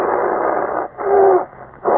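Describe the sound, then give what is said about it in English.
A bear growls and snarls loudly in rough, throaty bursts, three surges of savage sound separated by brief pauses, with no talking; the bear, with bared teeth, is moving toward a man in the wilderness. “The air was full of the savage growls coming from the bear's throat.”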